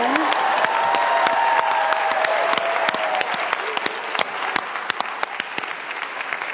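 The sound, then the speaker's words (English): An audience applauds steadily, a dense wash of many hands clapping with sharp individual claps standing out, with a brief whoop or cheer early on before the applause gradually thins. “Wait, another round of applause.”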